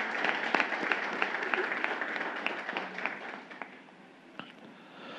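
A crowd applauds with dense, steady clapping, sharp individual claps popping out of the wash, gradually thinning toward the end before swelling slightly again.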